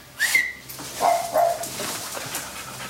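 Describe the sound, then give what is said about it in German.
A dog named Bagel gives a few short, high yips and whimpers as it dashes in, the excited whining calls coming in quick bursts with brief pauses between them. “Bagel kommt hereingeflitzt. Pete hält ihm die Mütze hin.”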